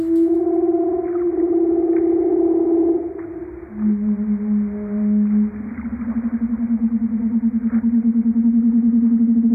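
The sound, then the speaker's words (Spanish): Long, eerie tonal courtship calls from a leopard seal, recorded by a marine biologist in the 1990s, sustained and steady, shifting in pitch from one held note to a lower one, then a slightly higher pulsing trill, with no voices present. “Estos son los sonidos extraídos por el biólogo marino Tracy Roger en los 90”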